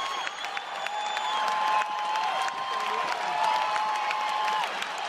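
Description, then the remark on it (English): The tennis crowd at the 2013 U.S. Open final between Rafael Nadal and Novak Djokovic roars and applauds wildly in the final moments, a dense, continuous wall of clapping and cheering with whistles and shouts rising above it, loud and sustained throughout. “The tennis crowd going wild there in the final very un-Wimbledon moments of the Rafael Nadal-Novak Djokovic U.S. Open final in 2013.”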